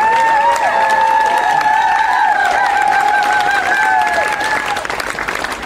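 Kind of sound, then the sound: crowd, crowd applause and cheering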